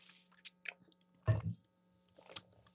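Someone takes a quick sip of water: a few soft wet mouth clicks, then a muffled gulp and swallow, all fairly quiet with no talking.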